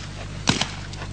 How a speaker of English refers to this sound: It still sounded like just 1 shot to me. On the other but hand, both of the bullets are gone.